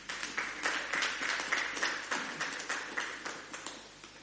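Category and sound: crowd, audience hand clapping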